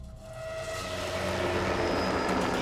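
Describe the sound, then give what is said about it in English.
A steady roar of news helicopters overhead, a broad engine drone with a thin whine on top that swells slightly louder over a few seconds. No voices. They fly above the police pursuit of O.J. Simpson on the Southern California freeways, broadcasting the footage live. “News helicopters flew above the action, broadcasting the footage to the public.”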